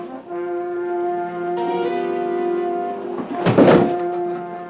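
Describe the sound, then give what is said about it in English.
A steady, layered droning chord holds for several seconds, then a single loud, heavy door slam bursts through near the end before the tone carries on. “I want you to seal off every door immediately.”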